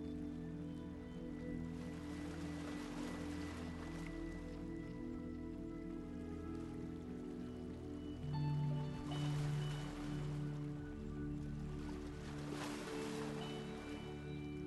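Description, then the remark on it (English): Gentle sea waves wash up onto the shore of a sandy beach and draw back in slow, broad swells, steady, with a soft sustained tonal drone underneath and no voices. “And you're sat on the sand, just in front of the shoreline. And the sea's coming up to your feet and going away again.”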